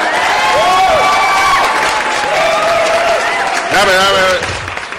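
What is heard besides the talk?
audience applause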